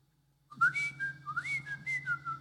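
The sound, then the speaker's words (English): A person whistles an imitation of a bird call: a rapid series of bright, warbling notes around one pitch, with quick slides and trills, over a low steady hum. “I hear this bird.”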